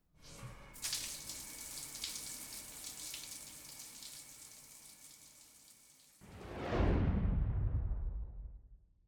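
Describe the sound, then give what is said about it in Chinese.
Shower water runs in a steady hiss for several seconds, then shifts to a louder, deeper rushing gush that swells and fades near the end. No one speaks. “你先去洗澡吧啊，老公，拜拜。”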